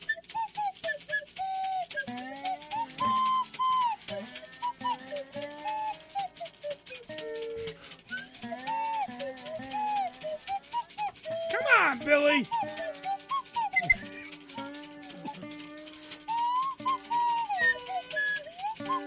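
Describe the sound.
A slide whistle warbles and swoops over steady tambourine jingles and strummed guitar in a lively jam, with a voice briefly speaking over the music.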